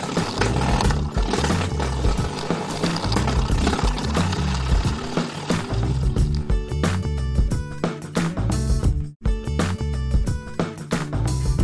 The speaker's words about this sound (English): Which reminds me of one more noise. Is it a motorbike? A toddler blowing a raspberry? Nope, it's a cat playing with a doorstop.